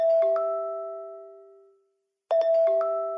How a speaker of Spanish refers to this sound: Miguel escucha el bip de su celular.